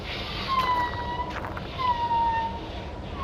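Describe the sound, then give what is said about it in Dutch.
Thin, wavering whistles and drawn-out calls from a male tusked arctic animal at the North Pole rise and glide over a steady, rumbling wash of noise, with a couple of longer whistles standing out. “En om indruk te maken, laat hij zeker van zich horen door te roepen en te fluiten.”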